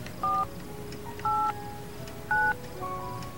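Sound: telephone keypad dialing tones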